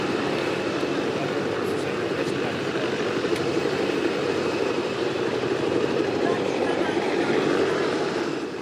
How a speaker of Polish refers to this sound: Helikopter nad centralem. Jak pan myśli, o co chodzi? Żeby odstraszyć ludzi, żeby się rozeszli. Tak mi się wydaje.